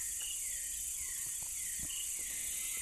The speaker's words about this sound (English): When the generators spluttered one by one to stop, and the lights dimmed, the forest raised its baton, and I was immersed in its chorus of unseen bugs, frogs, night birds, intermittent clicks, and wood block-like taps.